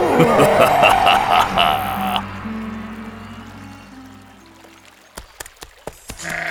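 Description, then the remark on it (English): A goat on a bridge lets out a loud, wavering bleat lasting about two seconds, then a quiet low drone lingers before a few sharp, hollow taps near the end. No one speaks. “The troll hears a goat on the bridge.”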